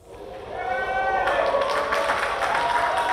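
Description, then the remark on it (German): A crowd murmurs and sighs with relief, then breaks into sustained applause that builds and holds steady, dense clapping with a busy wash of hands and voices, as a rocket lifts off in the morning from the Tanegashima spaceport in southern Japan, launching the United Arab Emirates' Hope Mars mission. “Ein Raunen, ein Aufatmen und Applaus.”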